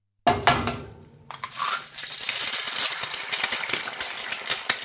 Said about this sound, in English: She's cooking. She's cooking. Excellent. Well done. How is she cooking and what is she cooking? I thought she's frying eggs. She's frying eggs.